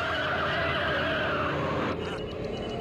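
A car engine revs hard while tires screech in a loud, continuous squeal as the car builds up speed, easing off slightly near the end of the few-second burst.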